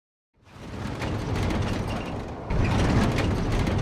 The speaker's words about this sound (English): Fucking storm.